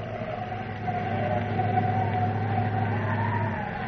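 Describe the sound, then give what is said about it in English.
A steady, moaning wind howls across a dusty plain with a wavering mid-pitched tone over a low, constant rumble, holding at an even loudness for a few seconds with no one speaking. “That wind howling.”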